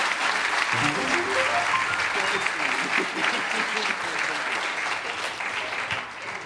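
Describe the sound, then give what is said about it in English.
An audience claps in loud, dense, sustained applause for several seconds, easing off slightly near the end, with a voice briefly audible beneath it early on. “You're a wonderful audience. Give yourself a big round of applause.”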